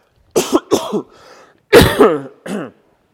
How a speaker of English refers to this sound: tell you what, let me just get rid of this coughing first.